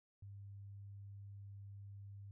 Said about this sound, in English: Here is a demonstration about pitch versus loudness. Here is a sine wave at 100 Hz at -50 dBFS.